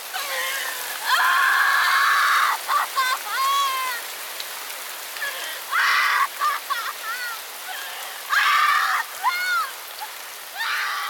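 heavy rain pouring down

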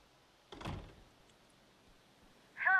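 door being closed

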